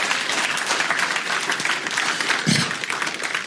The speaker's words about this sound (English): Would y'all give the Lord a hand clap? Amen.